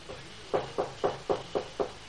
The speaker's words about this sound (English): Medical kit in hand, she dismounts, raps on the door of the tiny cabin.